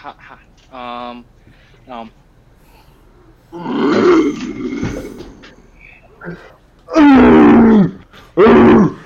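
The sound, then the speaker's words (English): Human voices imitate a North American short-faced bear's growl: a long, rough, low rumbling roar, then two louder, harsh bellowing growls at the end, with a few brief vocal sounds before them. “Can you first just do like a yell, like a short-faced bear growl?”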